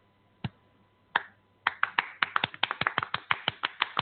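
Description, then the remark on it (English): An audience-clapping sound effect: sharp, crisp claps, two separate claps, then a steady run of quick rhythmic clapping, roughly four or five per second, loud and alone with no talking. “Just because he got seven life sentences, I got to almost do the audience clap. Listen to this.”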